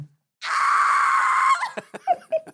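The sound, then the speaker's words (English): A voice mimics a roller coaster rider screaming as the coaster speeds off: one long, loud, strained shriek held for about a second, then breaking into several short, choppy yelps and gasps. “starts screaming immediately. And it's not just screaming.”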